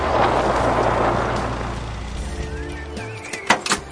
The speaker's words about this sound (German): Schließlich sah er ein Auto näher kommen.